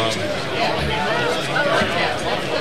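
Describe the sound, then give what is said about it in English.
Steady crowd chatter fills the space, many overlapping voices blending into a continuous babble at moderate loudness, with no single speaker standing out. “Okay, well, get rid of some of the crowd noise.”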